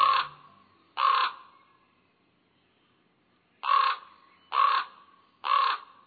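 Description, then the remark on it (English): Five hoarse, croaking common raven calls ring out loud: two in quick succession, a pause of a few seconds, then three more at an even pace. No voices accompany them. “Ravens are common in much of western and northern North America.”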